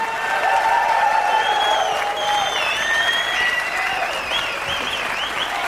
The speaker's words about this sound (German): Ein lieber Applaus. … hieß das Stück.